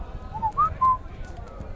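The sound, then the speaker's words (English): Three short, soft whistles from inside an egg, quick rising chirpy notes in close succession, heard alone over a low hiss of background noise. “And Eggy Baby whistled back.”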